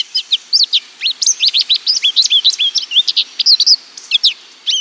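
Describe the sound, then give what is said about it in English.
A long, lively stream of high, twittering finch notes, the song of the American goldfinch, Washington State's official bird, a yellow finch with black cap and wings, rapid and varied with bright rising and falling chirps, clear with no talking. “Listen to this jaunty song and imagine a sprightly yellow bird with black cap and wings.”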